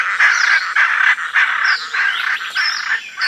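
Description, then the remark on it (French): A flock of Amazon parrots calls loudly in a deep forest on an island, harsh overlapping squawks and whistles coming in quick repeated bursts with no one speaking. “Et soudain, alors que mes compagnons et moi nous levons la tête, nous entendons une nuée de perroquets amazones.”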